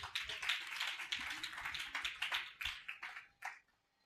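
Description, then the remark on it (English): A crowd claps hands for Jesus in a dense, continuous burst of applause that builds and then thins out into a few scattered claps before fading to quiet. “Let's clap hands for Jesus.”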